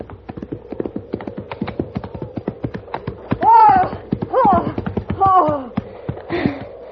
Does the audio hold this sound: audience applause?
no